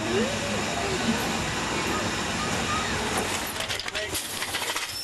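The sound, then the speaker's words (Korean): A steam locomotive releases a loud, continuous hiss of steam that fills the whole scene, steady and broad, becoming slightly uneven and sputtering near the end. “하지만 여전히 이 증기기차를 타볼 수 있는 곳이 있다고 합니다”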